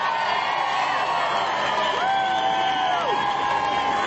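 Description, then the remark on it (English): A large crowd of citizens in San Francisco, transformed into Gotham City for a Bat Kid event, cheers and whoops continuously, a dense wash of voices with several high shouts rising above the roar, loud and steady throughout. “And with the citizens of Gotham cheering him on,”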